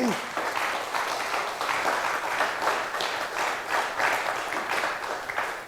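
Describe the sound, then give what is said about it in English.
A crowd applauds steadily for several seconds, a dense, sustained wash of many hands clapping at a fairly even level throughout, with no voices standing out above it. “So warm applause for the C3 VOC, please.”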